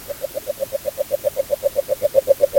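Agile frogs calling underwater, picked up by a hydrophone on a fishing-line cable connected to an audio recorder and headphones: a steady, rapid train of about twenty soft, mid-pitched knocking croaks, evenly spaced and growing slightly louder, with no voices.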